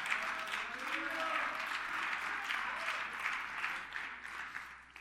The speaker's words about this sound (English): But listen to us laugh. Listen to us clap. Listen to our joy.